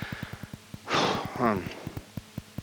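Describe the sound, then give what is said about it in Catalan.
A heavy breath from a person out of breath after running into a studio: a noisy inhale followed by a voiced, sighing exhale, over a steady soft rhythmic thumping in the background. “Ai, deixa'm respirar que vinc corrents.”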